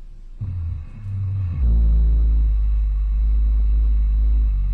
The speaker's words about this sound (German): Was da seit längerem zu hören ist, das ist ein winterschlafender Schwarzbär. Ein Schnarcher, ein Atemzug, etwa alle 40 Sekunden einmal. The snoring will actually show you how often the bear breathes.